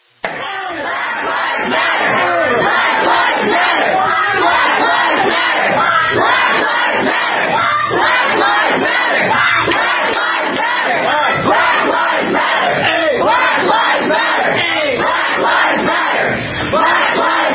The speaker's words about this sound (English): a clip from Dartmouth College 2 days ago with people in the study hall being screamed at and flipped off because they're white.